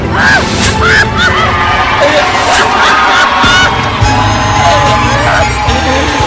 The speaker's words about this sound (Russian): И вот оно, время праздничного салюта и моего прощального монолога. Маэстро, прошу вас, начинайте!